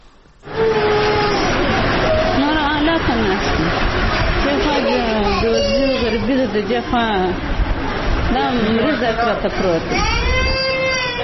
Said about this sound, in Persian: این مادر در شفاخانه میرویس کندهار در کنار بستر کودک مریض خود نشسته از فقر و بیچارگی گریه می کند. این مادر رنج دیده می گوید دخترش مبتلا به بیماری تلسیمیا یا کمبود خون است، نیاز به تداوی دوامدار و تزریق خون دارد، ولی این از توان اقتصادی آنها خارج است.